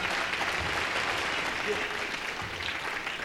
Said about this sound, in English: I want you to give him a big round of applause.